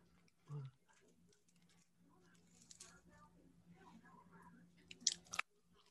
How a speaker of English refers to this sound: you're eating those fries out of the bottom right corner of your mouth